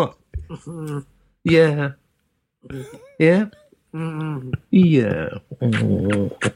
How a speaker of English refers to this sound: Yeah. It's a very vocal dog, this one, Daisy, mate. Oh dear. All right. Did you hear that? Go on, back under the desk.